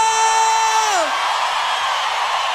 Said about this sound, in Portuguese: Quem gostou, solta o grito!